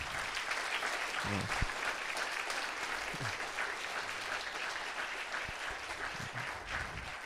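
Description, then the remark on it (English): An audience applauds six people who memorized the Sermon on the Mount, steadily, a dense wash of many hands clapping at an even loudness throughout, with no pauses and no voices standing out. “Can we applaud our six people that memorized?”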